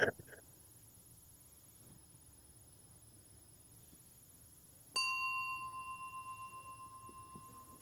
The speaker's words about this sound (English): Our service will begin in just a moment at the sound of a bell.